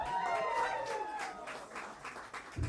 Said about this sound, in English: Give a big clap for yourselves.